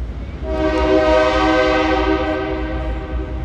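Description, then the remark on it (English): A loud, sustained train horn from an engine at the rail yards next to Seattle's baseball stadium blares for about three seconds, its chord of steady tones rising in quickly and holding over a low rumble of the engine. “Seattle's baseball stadium is built next to the rail yards, and the engines have a habit of blowing their whistles loud.”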